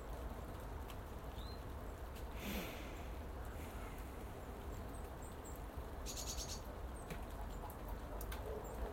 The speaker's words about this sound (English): Bird song. Oh, it's a treasure. Gold. No, it's more precious than gold. Bird song in the mornings.